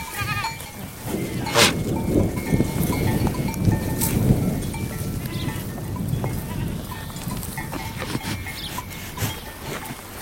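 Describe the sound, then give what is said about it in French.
A herd of goats bleats continuously, several animals calling over one another, with rustling and a faint bell-like clink in the background; no one speaks. “Tous les jours les chèvres ?”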